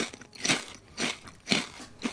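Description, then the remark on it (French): Four crisp, crackly crunches of potato chips being bitten, evenly spaced about half a second apart, with no voices. “Des chips croustillantes, des folles et des fondantes.”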